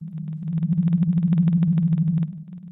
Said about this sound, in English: The sound of a blue whale can travel over 1,000 kilometres. And is one of the loudest sounds in the ocean.